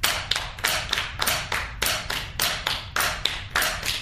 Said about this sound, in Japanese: じゃあ皆さん、これが四分音符です。八分音符打ってください。パッパッパッパッパッパッパッパッ、じゃあ手拍子でいきましょう。